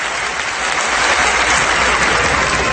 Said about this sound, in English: He had AIPAC crowd standing up, standing ovations for this guy. It was amazing.